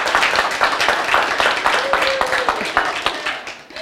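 A crowd applauds steadily, many overlapping claps forming a dense, sustained patter for about four seconds, with a faint voice or whoop rising briefly in the middle before the clapping thins out.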